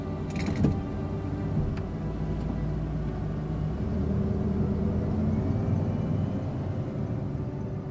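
A car engine rumbles steadily as the vehicle pulls away, with a short mechanical clunk and creak near the start and a low, continuous drone throughout.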